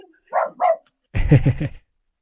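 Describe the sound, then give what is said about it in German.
Dogs bark at someone at the door: two short, higher yelps, then a quick, loud burst of three or four deeper, rougher barks, with no talking. “Entschuldigung, das waren gerade meine Hunde. Hier steht jemand an der Tür.”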